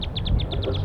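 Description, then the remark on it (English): A wild bird calls from the treetops in a quick, steady series of about seven short, high chirps, each note slightly falling in pitch, over a low rumbling background hum. “So recording, we got wild birds calling from the treetops.”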